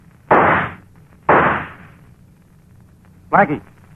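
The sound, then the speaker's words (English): Two loud, sharp gunshots about a second apart, each with a ringing tail that fades out, followed after a pause by a brief shouted voice; warning shots deliberately missed, fired to make someone open a door. “You know I missed on purpose, but next time I won't, and on purpose.”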